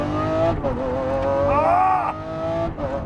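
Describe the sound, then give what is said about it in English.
A 2020 Lamborghini SVJ sports car being driven, its engine roaring and revving continuously, the loud tone climbing and easing with a brief higher surge midway, with no talking over it. “I am driving a 2020 Lamborghini SVJ. This car, watch this.”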